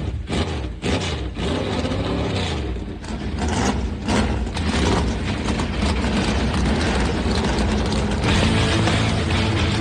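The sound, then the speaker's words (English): Many race car engines fire up and rev together on a sunny day at a race in Nashville, Tennessee, as drivers start their engines on command, building into a loud, dense, continuous roar with a deep rumble that fills the whole stretch, no voices heard. “The sun doth shine on Music City, and drivers, start your engine! The command has been given. Let's crank them up.”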